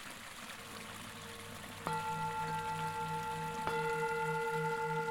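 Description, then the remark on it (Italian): Water rushes steadily in a constant, hissing flow, like a stream. About two seconds in, a sustained droning tone joins over it, shifting slightly near the end. “L'acqua scorre ininterrottamente e arriva alla meta.”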